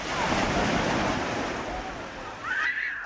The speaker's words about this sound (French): Il a fallu se lever tôt et rouler quelques heures avant de pouvoir découvrir ou redécouvrir la mer et le bruit des vagues.